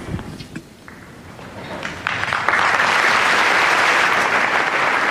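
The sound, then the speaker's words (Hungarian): A large crowd bursts into applause for Pope Francis after his blessing, starting with a few scattered claps and swelling after a couple of seconds into a loud, sustained roar of clapping that fills the space. “A mai napon is taps viharral köszöntik a Ferenc pápát, és köszönik meg az ő áldását.”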